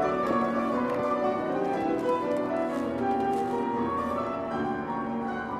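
Steady classical piano music plays in the background of a study at the Museum of the City of Łódź, at a moderate, even level, with rich sustained chords, a continuous flowing texture and no talking over it.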